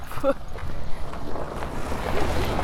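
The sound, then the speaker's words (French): A steady low rumble of boat engines as boat traffic passes the federal wharf at Tête-à-la-Baleine, mixed with wind noise and faint voices in the background, continuous for the whole stretch. “Là, il y a du trafic.”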